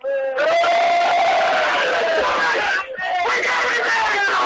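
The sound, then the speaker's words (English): A team of players on a bus yell and cheer together into a held-up phone, loudly and continuously, voices overlapping in a raucous, high-pitched roar with a brief dip near the end before the shouting surges again. “Hold the phone up. Let give us a yell, fellas.”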